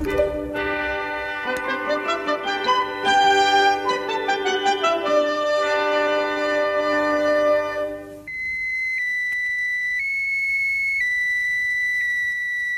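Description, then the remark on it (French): The radio beeping signal of satellite A1, the first French satellite, launched on 26 November 1965 by the Diamant rocket from the Amagouir base in Algeria: a run of buzzy, stepped electronic tones gives way to a steady high-pitched tone that hops between a few pitches, with no voices. “C'est celui du satellite A1 lancé cet après-midi par la fusée Diamant de la base aérienne de Amagir.”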